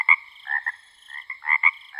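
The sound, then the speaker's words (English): A mockingbird mimics frog croaks: a quick run of short, nasal, buzzy notes in uneven bursts, clear, with no voices. “Their nighttime medley might include the songs of blackbirds, cardinals, house wrens, hawks, and even the sound of frogs.”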